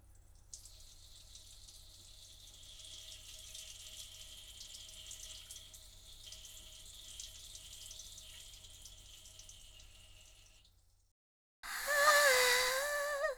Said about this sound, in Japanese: あ、おしっこも出ます。